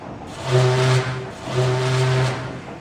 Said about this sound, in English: Give a quick toot on the horn, Reuter, shouted Captain Bobo.